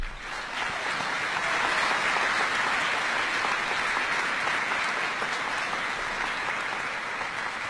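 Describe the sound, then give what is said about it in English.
Steady, sustained applause from a large crowd for a group of graduating senior students at a ceremony, a dense wash of clapping that holds at an even, fairly loud level for several seconds with no voices standing out. “Please give these students a round of applause.”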